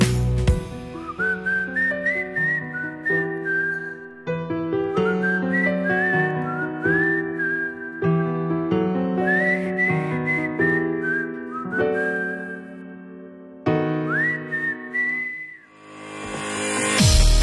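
A person whistles a lilting melody in repeated phrases with little upward slides, carried over a steady instrumental backing, before the music fades into a brief transition.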